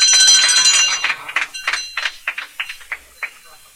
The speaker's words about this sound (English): Ring the bell. Even the bell is black.